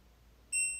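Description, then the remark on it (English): A short electronic beep from an LG washing machine's power button, pressed on its touch panel, sounds once: a clear high-pitched tone that starts abruptly and fades slightly, with no talking. “So you probably heard that little beep.”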